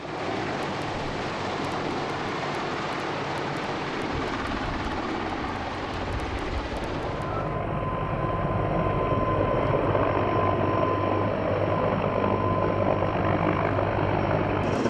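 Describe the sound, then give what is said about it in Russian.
A helicopter roars overhead carrying a cage of sedated bears slung beneath it, evacuating them from a flooded area; a dense continuous rotor and engine noise that shifts midway into a deeper, steadier drone with a faint whine, with no voices. “Медведям сначала ввели успокоительное, после чего транспортировали клетку в безопасное место, прицепив ее к вертолету.”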